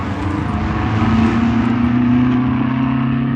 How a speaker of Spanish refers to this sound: A bordo del automóvil, cruzan las rejas de la suntuosa mansión de Lord Ferrison, deteniéndose justo frente a la puerta.